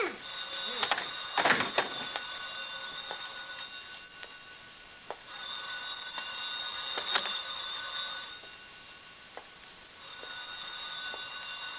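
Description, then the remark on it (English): An old-fashioned telephone bell rings in long, steady bursts, three rings separated by short pauses, fairly loud, with no one speaking over it. “Let me answer the phone.”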